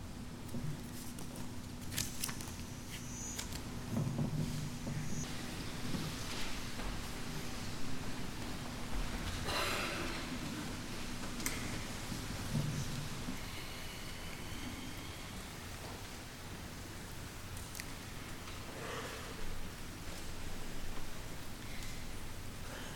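Steady rain patters and hisses continuously on leaves outside a window, with scattered drips standing out and a low, distant rumble of thunder underneath. No one speaks.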